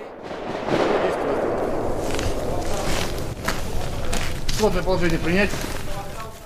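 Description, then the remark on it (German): Several sharp rifle shots crack out in quick succession, some closely paired, as men in weapons training fire controlled double shots, over a constant loud rumbling background, with a man's voice calling out near the end. “Ihr feuert jetzt zweimal, kontrolliert.”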